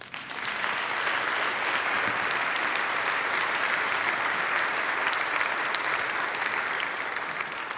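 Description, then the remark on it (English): An audience breaks into steady, sustained applause, a dense wash of many hands clapping at an even loudness for several seconds, with no voices standing out above it. “That's such a good word, we ought to applaud it.”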